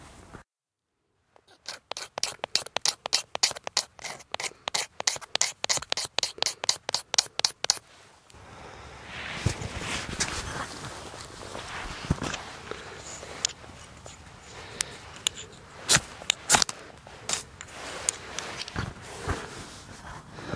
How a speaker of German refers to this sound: Wow, ich habe meinen Feuerstahl mit und ein Stück Kienspan und habe davon gerade ein paar Späne abgemacht und gerade einen Funken in diese Kienspanwolle geschlagen.